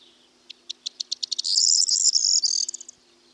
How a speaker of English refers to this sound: Male corn buntings are often seen perched on top of bushes, singing loudly, a song that sounds like a jangling set of keys.